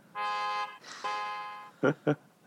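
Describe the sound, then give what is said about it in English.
A very loud alarm clock blares: two long, harsh buzzing tones followed by two short, sharp blasts, piercing, with no talking. “World's loudest alarm clock.”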